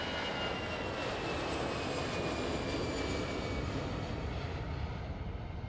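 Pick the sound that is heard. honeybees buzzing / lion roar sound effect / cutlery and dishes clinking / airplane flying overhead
airplane flying overhead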